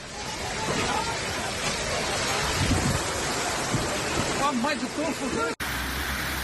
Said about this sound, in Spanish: Y así sonó ayer la espectacular tormenta y la fuerte lluvia que cayó en la provincia de Alicante.